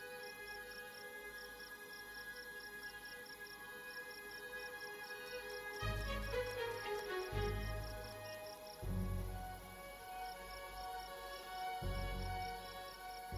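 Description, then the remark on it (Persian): Crickets in Los Angeles chirp in a steady, rapid rhythm throughout, fairly faint and continuous, while a few louder low rumbling bursts break in over the second half. “از جیرجیرک ها تا دارکوب ها، روباهای خاکستری، حتی از استراحوهای خجالتی به خاطر تشنگی خطر”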